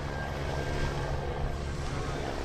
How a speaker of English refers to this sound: The Shark Patrol helicopter gives the all clear, and the beach opens again to swimmers.